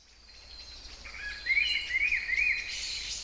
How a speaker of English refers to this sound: Oh, it's a bird. I like birds.